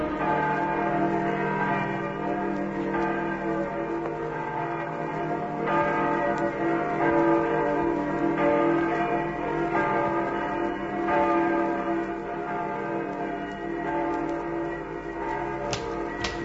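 Church bells in Spain ring continuously, their overlapping tones blending into a dense, sustained peal with periodic fresh strikes, moderately loud and steady throughout, with no voices.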